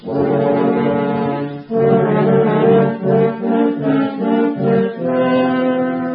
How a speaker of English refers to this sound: Our villain, the wolf, will be played by three horns.